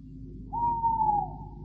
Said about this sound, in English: Has it ever occurred to you, Canon, that an owl chooses the oddest place in which to conduct his romantic exploits?